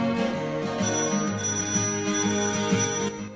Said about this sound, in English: Hearing the bell, he gets up and hurries to the front door. As he opens it, 3 kids run off down the street.